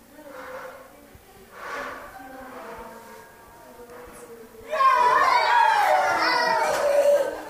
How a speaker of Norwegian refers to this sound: Og jeg titter inn i klasserommet uten at de vet at jeg kommer. Og her sang de en barnesang om Jesus.